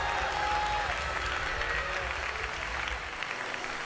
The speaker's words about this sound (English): Somebody clap your hands and receive that right now.